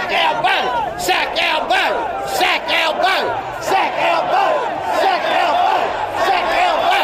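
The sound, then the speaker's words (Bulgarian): Thousands of marchers in Brisbane's city centre, Australia, shouting together in protest against Prime Minister Anthony Albanese, many overlapping voices rising and falling in loud, steady waves of chanting and yelling that continue throughout without a break. “Во Брисбен илјадници маршираа низ центарот на градот, од кој многумина го изразија своето незадоволство од премиерот Антони Албанезе.”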